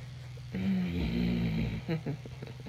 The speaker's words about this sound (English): Oh, my God. I just growled.